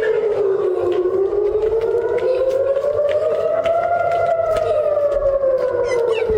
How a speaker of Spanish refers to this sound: Nos unimos absolutamente a este deseo de la Federación de Comunidades Judías de España mientras suenan las sirenas en Israel.